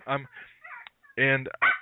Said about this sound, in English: Hold on a second. My little dog Charlie is barking. He'd probably bark through all the Black Owl interviews, so you may be familiar with him.